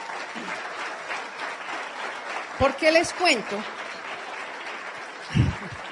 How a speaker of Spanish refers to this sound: Ahora sí vale la pena que le den el aplauso.